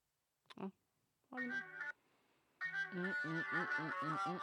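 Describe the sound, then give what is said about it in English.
A song plays from a small, tinny phone speaker: thin, bass-light music with a sung vocal line that starts in short bursts, pauses, then continues steadily at moderate volume. “Because the speakers are shit on my phone.”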